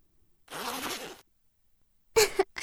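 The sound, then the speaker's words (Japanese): A zipper is drawn down in one steady rasping stroke lasting under a second, followed after a pause by a couple of short, breathy bursts. “じゃあチャック下ろすよ。”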